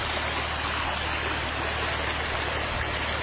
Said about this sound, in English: Another waterfall.